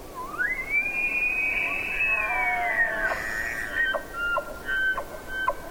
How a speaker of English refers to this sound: Big bull elk are moving toward us, bugling as they walk.